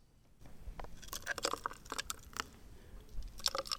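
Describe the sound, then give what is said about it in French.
Ice cubes tumble into a glass during a smoothie tasting in a quick, irregular run of clinks and crunchy knocks, with a bright ringing tap now and then. No one speaks. “Donc, on entend très bien des glaçons tomber dans le verre.”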